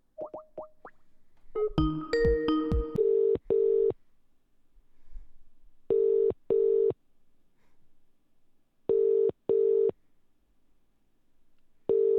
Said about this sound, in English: We'll give him a ring.